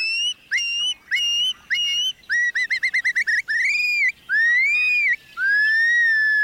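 Loud, clear whistled flight calls from a shorebird ring out in quick repeated bursts, including a rapid stuttering series, then stretch into longer rising and falling whistles, alone with no other sounds; alarm calls given when the bird is disturbed by a potential predator.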